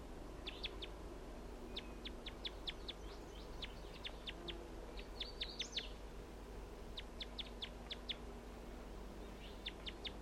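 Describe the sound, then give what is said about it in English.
A male wild bird near a net calls in repeated bursts of sharp, high-pitched chips, several rapid notes per burst, standing out clearly over a steady low background hum. “And that's him calling right there.”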